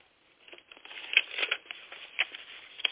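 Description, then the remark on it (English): Quiet paper rustling and crinkling, a few seconds of light shuffling with small sharp crackles, as a piece of paper is tucked between the pages of a book to mark a place. No one speaks. “And if I can find a piece of paper, I'll mark my place here.”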